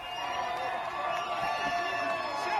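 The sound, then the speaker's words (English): A dense, steady roar of a crowd of people shouting, laughing, screaming and cheering in packed streets, with high whistles cutting through the din and excited voices blending into a continuous, loud wash of noise. “People shouting, laughing, dancing, whistling, screaming.”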